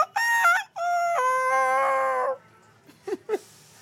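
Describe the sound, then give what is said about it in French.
A man imitates a rooster's crow: one loud, drawn-out cock-a-doodle-doo with a choppy start, followed by a couple of short, quieter vocal bursts. “Mais un coq qui apprend à s'y faire”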